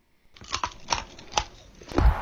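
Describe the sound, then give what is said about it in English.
A woman bites and crunches an icicle: four or so sharp, crisp crackling crunches at an irregular pace, with softer gritty chewing between them and a low thump at the end. “Okay, so she's just eating a popsicle, or a, not a popsicle, but an icicle here, okay?”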